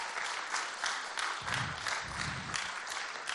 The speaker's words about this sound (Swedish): En applåd tack för de här.